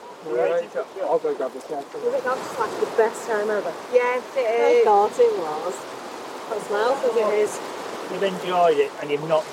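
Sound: ocean waves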